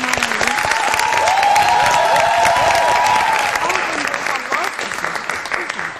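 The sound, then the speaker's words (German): A live audience at the Museum für Naturkunde in Berlin, among the new bird exhibition, claps steadily for several seconds, dense, with a bright whistle or cheer rising above the applause before it thins out toward the end. “Zunächst dürfen auch alle mal klatschen.”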